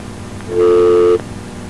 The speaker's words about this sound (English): That's about a dial tone, it sounds like.